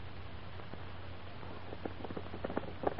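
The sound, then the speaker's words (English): A horse trots, pulling a sulky around a track: soft, rhythmic hoofbeats grow a little louder over a steady low hum, with no voices. “Can you drive a sulky, Sparky? Oh, yes, sir. Well, then come along. Let's see you jog a couple of laps.”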